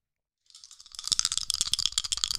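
Dice rattle and clack together as they are shaken in a hand before a d20 dexterity check roll, a rapid, irregular stream of bright clicks that starts after a short silence and keeps going steadily.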